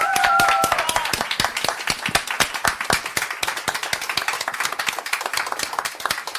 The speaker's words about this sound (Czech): Velký potlesk pro tu komunikační dvojku.